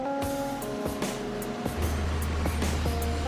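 An industrial dryer in a plant spins coal at high speed until excess water is removed, a loud, steady mechanical roar with a tonal hum and periodic rattling knocks; partway through, a deeper low drone swells in. No voices.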